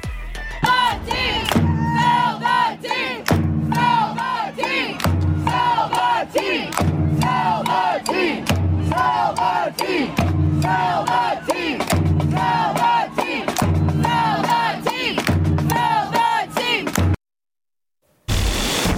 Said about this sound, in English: This is what the Spirit fans sounded like at Audi Field.